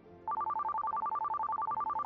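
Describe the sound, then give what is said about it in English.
A phone ringtone starts abruptly and trills steadily, rapidly alternating between two electronic tones, loud, with no voices over it. “Fortune sounds like my phone.”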